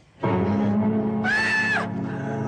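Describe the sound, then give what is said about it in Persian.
A girl in a film scene screams loudly, one sustained cry of about two seconds that climbs to a shrill, piercing peak in the middle before easing back down. “باز که جیغ بکشی دخترشو، از من پیر مرد بشنو، زندگی ارزششو نداره.”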